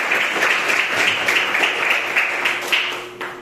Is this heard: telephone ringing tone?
no